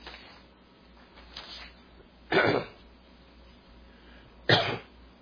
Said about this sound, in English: I'm still coughing from all that propane that went down in my lungs.